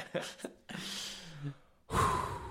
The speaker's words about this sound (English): I just had to take a breath there. You know what? I've been doing a lot of yoga. I've been more controlled in my breathing.